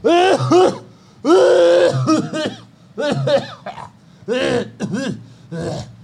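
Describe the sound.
A person loudly mimics a man's harsh, rasping cough several times in a row, with short pauses between the bursts, with no other sounds around.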